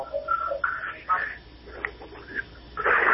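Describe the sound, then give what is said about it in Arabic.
A television plays in the background of a caller's phone line to a call-in program, its voices muffled and tinny, swelling in short bursts with a louder stretch at the end. “طيب تفضل بس أخفض صوت التلفزيون عشان ما يحصلش صدى للصوت عندك، تفضل اسمعني من الهاتف يعني إن شاء الله.”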